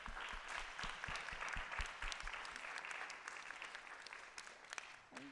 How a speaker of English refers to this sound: I'd like to give our panelists one more thank you for being here. A round of applause, and thank you for coming.